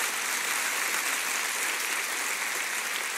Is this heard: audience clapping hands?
yes